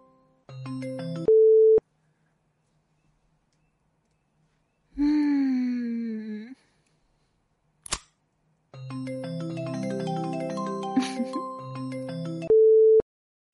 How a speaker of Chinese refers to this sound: 你有电话不接吗？